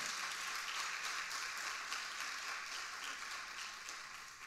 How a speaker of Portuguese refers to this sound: Se você está comigo, dá uma salva de palmas a Jesus aí no teu lugar.